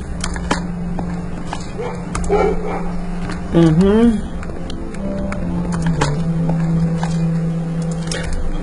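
A dog lets out one short, whining yelp midway through, heard over a steady low hum and faint clicks in the background.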